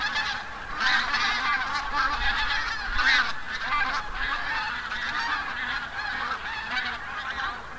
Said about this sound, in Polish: Tak, najwięcej jest gęsi tundrowych, bo te są najliczniejsze i tego gęgania, a takie pojedyncze, takie bardziej piskliwe to gęsi białoczelne. Także te dwa gatunki stanowiły pewnie 99% tych ptaków, które tutaj widzieliśmy.